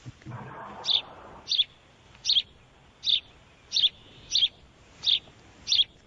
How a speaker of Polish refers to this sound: Jaki ptak tak ćwierka? Jaskółka? Mamo, podpowiedz. Wróbelek? Wróbelek, dobrze